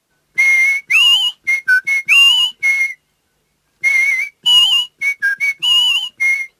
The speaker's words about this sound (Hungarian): megértetted, mit siporászott a delfinida?